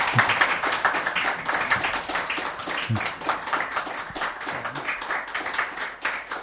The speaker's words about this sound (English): If you could give him a huge round of applause.